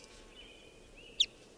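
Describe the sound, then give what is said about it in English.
A single sharp, high bird chirp pops out briefly near the end, over a faint, steady thin whine and quiet background hiss, as bird number 546 is being recorded. No one speaks. “Recording bird 546.”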